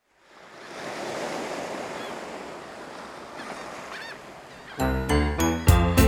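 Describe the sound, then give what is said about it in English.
Ocean waves wash steadily onto a beach by the sea in a continuous hiss of surf, then several loud, honking bird calls burst in over the last second or so. “We're at the beach next to the sea.”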